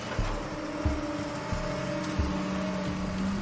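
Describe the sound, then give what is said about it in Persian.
A truck engine drones steadily with a low rumble and humming tones that rise slightly, joined by a few dull low thumps, as the vehicle seems to draw closer. No one speaks. “برو، کامیون داره میاد.”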